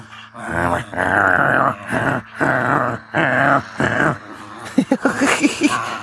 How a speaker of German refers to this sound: Und dieser Hund, der macht mich wahnsinnig.